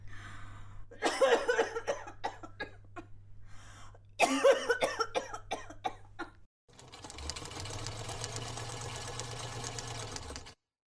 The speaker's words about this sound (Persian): بازم که سرفه میکنی، حالت خوب است امروز؟